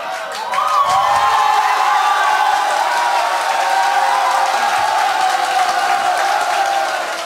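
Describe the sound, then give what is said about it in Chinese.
A large audience bursts into loud applause mixed with cheering and shouts, a dense, steady roar of clapping and voices that holds for about seven seconds without letting up. “你们目前给的掌声只够我讲这个世界上最伟大秘密的注解。”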